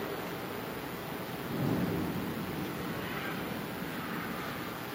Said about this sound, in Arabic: هذا برق، هذا رعد.